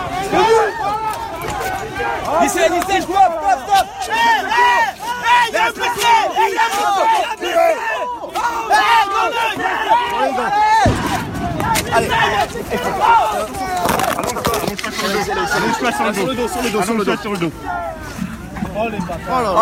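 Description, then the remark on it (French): A dense crowd of many voices shouting and yelling together in a chaotic, continuous roar, like fighters charging, with scattered impacts and clatter mixed into the loud din. “Ça ressemble énormément à des archives de guerre, pas tout à fait, mais la différence avec des extraits sonores qu'on peut trouver sur des fronts de guerre”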